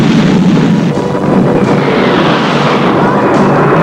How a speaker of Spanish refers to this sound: Al accionar la palanca puso en marcha el reactor de la turbina.